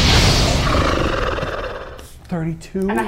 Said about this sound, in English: Like, literally, directly in between the two of you with maybe an inch to spare and strikes it directly in its main eye. It lets out this horrible scream.